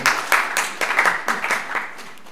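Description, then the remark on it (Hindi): An audience claps together in a steady, fairly quick rhythm for a couple of seconds, the sharp claps loud and evenly spaced, with no voices over them. “ताली बजाओ न सहज है न।”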